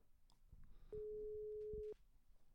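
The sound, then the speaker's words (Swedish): A single steady electronic ringing tone of an outgoing phone call sounds for about a second, fairly loud and clear, over faint background rustling and a few soft clicks. “Och då, det är då vi ringer.”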